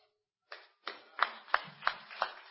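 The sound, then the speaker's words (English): A crowd claps together in a steady rhythm, about six strong beats roughly a third of a second apart, ringing out with strong reverberation and no talking. “The only problem now is I don't know who you are clapping for.”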